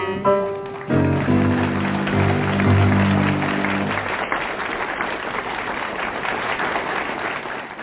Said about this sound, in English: Comes with its own applause, too, which I like.